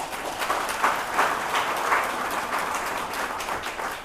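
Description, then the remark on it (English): A crowd applauds the Carnival Queen contestants steadily for about four seconds, a dense wash of many hands clapping at an even, fairly loud level with no voices over it. “But in fact, I think we owe the Carnival contestants, Queen contestants, a special round of applause.”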